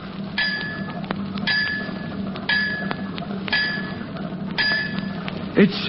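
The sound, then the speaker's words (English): Five evenly spaced metallic taps ring out on a sewage pipe, tapping out five bells, each a bright, resonant clink about a second apart, over a low murky hum and background noise. “Tapping out 5 bells on the sewage pipe.”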